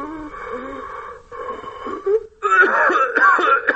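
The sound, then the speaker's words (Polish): Strained, wheezing breaths from a medical training manikin (phantom) at a university simulation centre, simulating breathing problems: a steady raspy inhale followed by harsher, rattling, labored breathing that grows louder and rougher, with no talking. “Może też mieć na przykład problemy z oddychaniem.”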